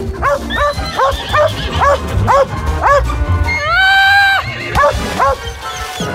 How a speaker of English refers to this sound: Can't you keep that dog under control?